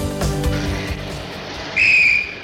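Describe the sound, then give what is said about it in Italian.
A traffic officer's whistle gives one sharp, shrill blast lasting about half a second, loud, following a stretch of rumbling street and engine noise. “Ma quello era un vigile.”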